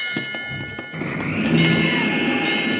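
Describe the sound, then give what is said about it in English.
The Titanic striking an iceberg, as a drama effect: a few dull thuds give way to a loud, sustained grinding crash with shrill metallic scraping tones running through it, swelling slightly over about three seconds with no voices. “We've struck an iceberg.”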